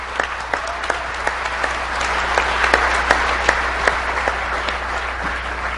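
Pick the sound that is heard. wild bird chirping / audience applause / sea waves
audience applause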